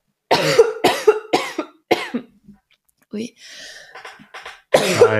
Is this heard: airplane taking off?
no